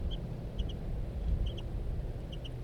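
Calls from a courting bird pair, male and female, just after courtship feeding: short, high-pitched chirps, mostly in quick doubles, repeated about four times over a steady low rumble.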